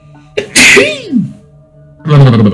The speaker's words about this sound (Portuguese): Pera aí que eu vou dar uma espirradinha.